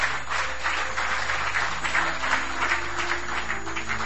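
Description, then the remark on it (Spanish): An audience applauds loudly and steadily, a dense wash of many hands clapping at an even level throughout, with a low hum underneath and no voices. “Dale el aplauso fuerte a tu Dios.”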